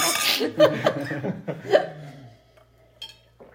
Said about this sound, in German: Prost, Jungs. Kommt, warte, wir müssen erstmal anstoßen.